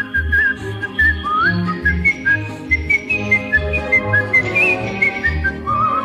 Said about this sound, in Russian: Я эту песенку могу не только вам напеть, но если нужно просвистеть негромко.